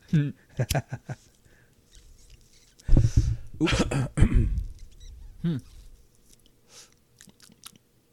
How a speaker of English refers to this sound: It's not as harsh as I was expecting, which is awesome. I can't stand harsh weed. So, as I said before, I hate coughing.